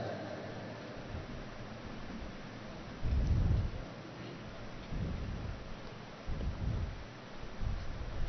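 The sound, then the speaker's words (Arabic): Steady rain hisses throughout while several deep rolls of thunder rumble in, one stronger burst followed by two softer ones, loud against the constant downpour. “ماذا تقول إذا نزل المطر عندك؟”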